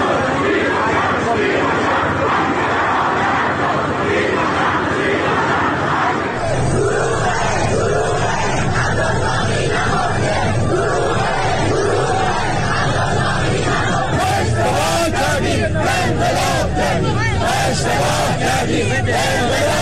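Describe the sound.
A large crowd of protesters marches and chants loudly and continuously in Abadan, Iran, on a Wednesday evening, protesting the lack of help for people trapped under the rubble of the collapsed Metropol tower, many voices blending into a dense, roaring mass, with sharper rhythmic shouts rising toward the end.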